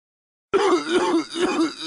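nasty cough

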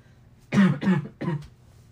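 coughing and throat clearing

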